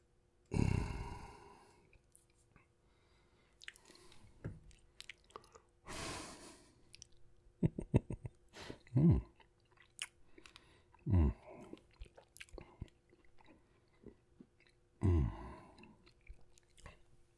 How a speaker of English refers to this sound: How about mouth sounds? Nom, nom, nom. Nom, mouth sounds. Oh, fuck. Mouth sounds. I didn't stop chewing through that, though, I noticed.